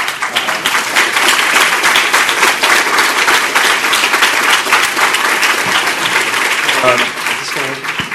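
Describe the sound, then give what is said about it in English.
Sustained applause from a large conference audience at a library, a dense steady clatter of many hands clapping at full volume for about eight seconds, with a few faint voices mixed in. “Give you that applause for a moment.”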